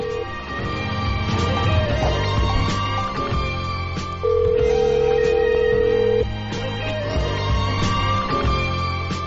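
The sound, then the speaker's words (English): A single steady phone ring tone lasts about two seconds mid-clip as an outgoing prank call is placed, sounding over continuous background music with no one speaking. “All right, we're gonna call”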